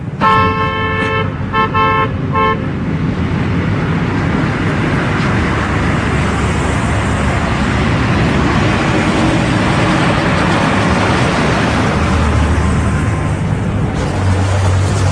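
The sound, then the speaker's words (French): A quick series of loud car horn honks opens the scene, then dense street traffic rumbles on steadily in a narrow alley in Iran with an old, battered truck, with engines and road noise and no voices. “Ah, c'est une petite ruelle avec un vieux camion tout défoncé, avec une famille qui est là devant sa maison en Iran.”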